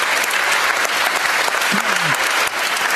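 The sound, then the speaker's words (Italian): Steady, dense audience applause fills the whole stretch, a broad wash of many hands clapping at even loudness, with a faint brief vocal tone rising underneath partway through. “Un applauso.”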